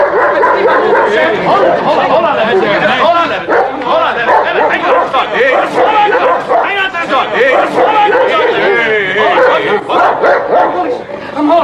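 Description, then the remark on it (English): A dog barks and yips insistently, loud, over a constant background of crowd chatter, with occasional whimpers between bursts. “Leonard, just hold on to the dog. The dog's already bitten one person.”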